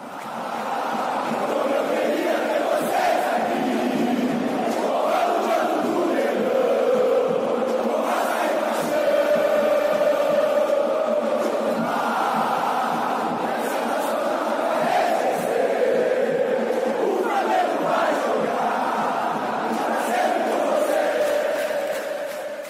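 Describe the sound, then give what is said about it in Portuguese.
A huge crowd of Flamengo football supporters sings together in a stadium at the 10th minute of the match, in reference to the 10 boys, a dense, sustained chant with rising and falling melodic lines and swelling loudness, continuous throughout with no speech over it. “E todo o minuto 10, que é referência aos 10 meninos dos jogos, a torcida do Flamengo sempre canta.”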